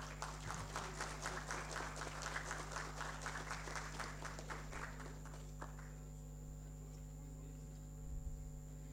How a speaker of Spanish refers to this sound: Fuertes los aplausos.